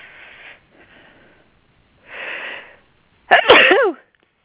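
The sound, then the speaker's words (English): A few breathy inhales build up, followed by one loud, sharp sneeze, with no talking during it. “Sorry, sneezing.”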